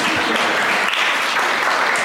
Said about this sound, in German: Vielen Dank, der Engel. Ein Applaus für unseren Engel.